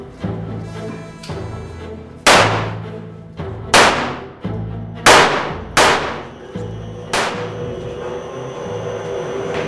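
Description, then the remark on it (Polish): A training series of sharp sport-pistol gunshots at a shooting range with targets at 25 metres, about seven cracks fired at uneven intervals, each ringing briefly before fading over a steady low background hum. No one speaks. “Teraz macie czas na to, żeby przyjrzeć się uzyskanym wynikom podczas treningu po 10 strzałach.”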